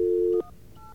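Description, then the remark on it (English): A loud, steady phone dial tone hums, then cuts off as two short, fainter dual-pitched touch-tone beeps follow from keys being pressed to dial the phone line of the Alliance to Outfox phone fraud. “You can call 1-800-9-OUTFOX.”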